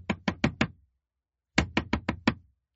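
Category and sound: household object, knocking on a door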